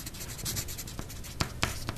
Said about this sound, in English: She couldn't stand being in a classroom in high school with pencils scratching on the paper.